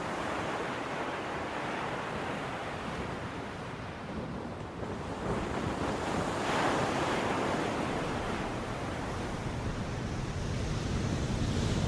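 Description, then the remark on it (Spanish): Ocean waves break and wash steadily onto a sandy beach, a full, continuous rushing roar that swells louder partway through, with no voices present. “Aquí nos tienes a nosotras, las olas en el mar. Nos separamos lentamente para chocar en la arena de la playa y volver al gran mar.”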